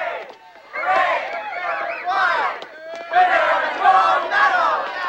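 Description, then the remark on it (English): A crowd streaming out of a building cheers and shouts, many excited voices overlapping in a loud, continuous roar that dips briefly, then swells again even louder. “They approach a crowd streaming out of a building.”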